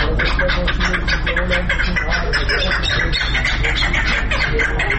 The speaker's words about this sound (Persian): در نزدیکی مرغ بازار شهر شبرغان سرای واقع است که لحظات بعد در این سرای کپ جنگی آغاز می‌شود. در اینجا صدای پرنده‌ها توجه رهگذران را به خود جلب می‌کند.